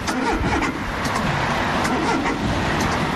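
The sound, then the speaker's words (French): A car engine sputters and labours roughly in the cold morning, minus 4 degrees with a light wind, in Seclin between Lille and Lens in northern France, then catches and keeps running, fairly loud, with no voices. “Le bruit du matin pour beaucoup. La voiture qui broute mais qui finalement a démarré.”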